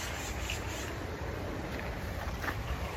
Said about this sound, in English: I believe it said a 10-foot waterfall. Yeah. Maybe it's not sheer, but just the span of it. Let's see if we can find it. What's that sound of running water?